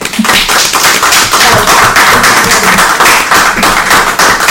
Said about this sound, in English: Applause.